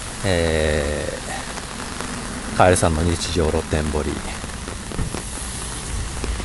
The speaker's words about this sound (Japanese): また雨の中をお送りしております。